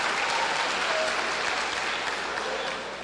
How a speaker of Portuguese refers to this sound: Se for, pode aplaudir a Deus com liberdade nessa noite.